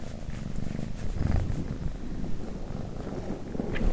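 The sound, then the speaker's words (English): A steady cat purr rumbles continuously throughout, low and even, while another cat licks her, with faint soft rustling or licking sounds layered on top and no talking. “Now there's another cat and he's licking her.”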